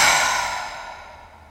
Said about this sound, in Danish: Tag en dyb indånding. Og pust langt ud.